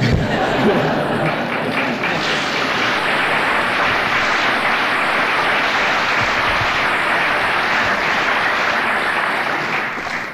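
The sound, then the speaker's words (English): A large audience applauds in a hall after an evening talk: dense, steady clapping that stays loud for about ten seconds, with faint murmuring mixed in, before easing off slightly at the very end. “Chairman, ladies and gentlemen, the warm applause in this hall, and it seems many halls in this building, indicates how much all of us appreciate and have enjoyed the talk we've heard tonight”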